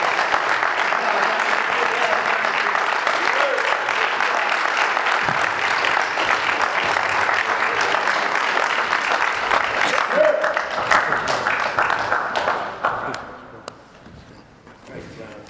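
A crowd applauds a speaker who has just shared at a meeting, clapping steadily for about thirteen seconds, a dense, even patter of many hands that then fades quickly to a few scattered claps and low murmur.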